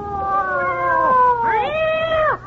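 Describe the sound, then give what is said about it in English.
Two cats meow loudly, their long wavering cries overlapping, the first drawn out and sliding down, the second rising then falling, with no talking. “Where did the cats come from?”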